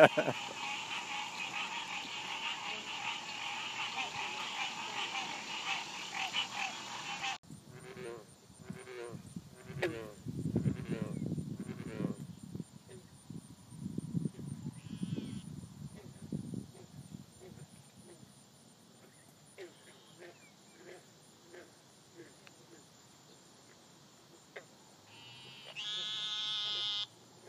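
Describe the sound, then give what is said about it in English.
A loud, dense chorus of insects buzzes steadily outdoors for several seconds, then fades into a quieter background as people talk, with a brief burst of rasping calls near the end. “I couldn't live right here next to this. They're pretty. The bugs are pretty.”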